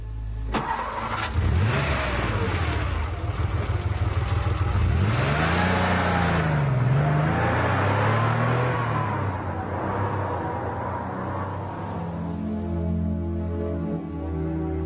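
A car engine starts up and revs loudly, its pitch climbing and falling in several sweeping surges, then settles into a steadier, lower drone as the car pulls away. No one speaks.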